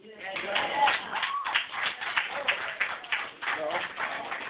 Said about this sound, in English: Okay, so several people are clapping right now.